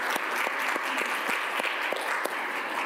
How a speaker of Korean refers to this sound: 우리 감사와 찬양과 영광을 박수로 한번 돌려볼까요? 할렐루야.